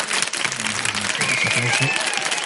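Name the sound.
applause sound effect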